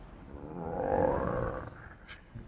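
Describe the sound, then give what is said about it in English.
A person imitates the roar of the Godhead Vishnu, said to roar tumultuously like a great mountain: a single deep, resonant, sustained rumbling growl that swells over a second or two and then fades, with no speech. “While Brahma was deliberating with his sons, the personality of Godhead Vishnu roared tumultuously like a great mountain.”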